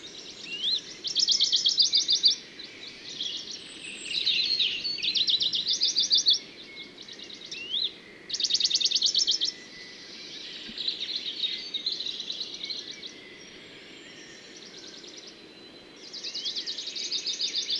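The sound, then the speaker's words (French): Bright bird song from a Bonelli's warbler and a European robin in a Scots pine and oak forest on a windy, cloudy morning near rain, short trilling phrases repeating every second or two over a soft, steady background hush, clear; recorded with a Telinga Pro 7 parabolic dish. “Je reviens sur les Puyo de Bonelli et le rouge-gorge.”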